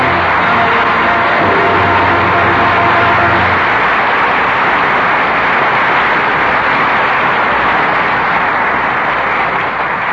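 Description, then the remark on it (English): Steady, loud studio audience applause, a dense crackle of many hands clapping that holds for about ten seconds, with a low musical tone lingering under the first few seconds before fading. “That applause is for the valor of China and the sincere performances of Loretta Young, Alan Ladd, and William Bendix.”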